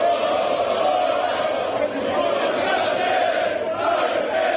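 A large, hostile crowd of fans and so-called patriotic groups roars and shouts continuously while breaking up a public event, a dense wall of voices blending into one another with no pause, loud and sustained throughout.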